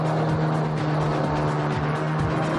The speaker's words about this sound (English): he's giving it more and more. That powerful prop is throwing up lots of spray, but he's not getting much speed. It didn't quite plane, though. It's still ploughing rather than planing.